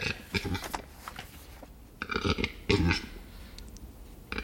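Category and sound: bird, western capercaillie display call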